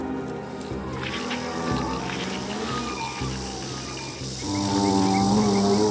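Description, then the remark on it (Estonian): A monster's long, mournful bellowing cry, answering a foghorn and echoing over water, drones low and loud, wavering in pitch over a rumbling background and swelling stronger toward the end. “Nii kurb ja üksildane kisendus, et see mu peas ja kehas värelema lõi.”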